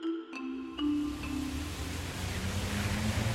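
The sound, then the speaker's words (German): A car rolls through a street puddle of rainwater standing in potholes just after a downpour, its tyres throwing up a high, long, rushing hiss of spray that swells and stays loud, with a faint engine hum at the start. “Autoreifen lassen es hoch aufspritzen.”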